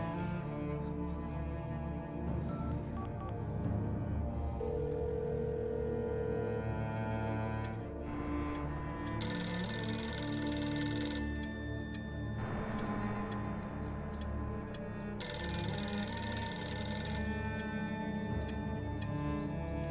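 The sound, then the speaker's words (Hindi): A telephone rings unanswered in two bright, sustained bursts a few seconds apart, heard over a dense, steady musical background with no one speaking. “Telephone लगा रही हूँ, रिसीवर नहीं उठा रहे हैं।”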